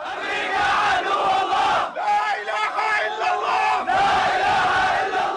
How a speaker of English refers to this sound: There is no God but God, and America is the enemy of God, hundreds of families chant at the gates of Abu Ghraib, once Saddam Hussein's most notorious prison.